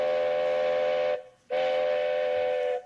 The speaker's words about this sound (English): We just have to cross these railroad tracks before that train gets here.